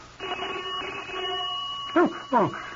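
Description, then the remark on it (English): A house doorbell rings on a Saturday morning as a man arrives with a cablegram, a steady, buzzing tone that holds for over a second and a half, followed by two short voice-like sounds at the end. “Oh, doorbell.”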